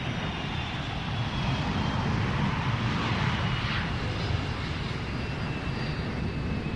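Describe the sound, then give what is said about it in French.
A steady, loud airplane engine roar drones continuously during a passenger flight, with a broad rumble and hiss that never lets up. “Mesdames et messieurs, il va y avoir quelques turbulences pendant notre vol.”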